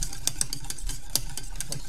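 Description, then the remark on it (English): Brisk whisking of sabayon with wine added by the spoonful, in a bowl, a run of quick metallic ticks and scrapes in an uneven rhythm over a steady low hum, with no one speaking. “Et on rebat.”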